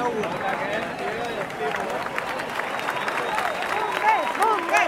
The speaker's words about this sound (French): Les pompiers qui sont arrivés et qui sont applaudis parce qu'ils ont protégé la bonne tenue du référendum. Ils se sont interposés entre les votants et les forces de l'ordre.